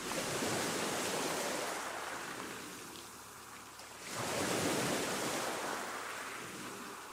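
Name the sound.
sea waves washing ashore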